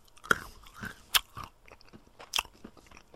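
Crunchy chewing on a hard candy-like chewable tablet, with sharp bites cracking through at irregular moments between softer mashing sounds. No one speaks.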